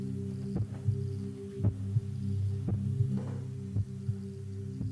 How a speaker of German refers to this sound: Das ist das Herz deiner Mutter.